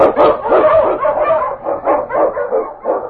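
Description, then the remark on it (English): The Wonder Dog King, a husky Eskimo lead sled dog, barks loudly while blazing a trail through storm and snow in the Yukon: a rapid run of excited barks and yips that barely pauses over about three seconds, with no one talking. “On your Husky! The Wonder Dog King, swiftest and strongest of Eskimo lead dogs, blazes a trail through storm and snow for Sergeant Preston as he meets the Challenge of the Yukon.”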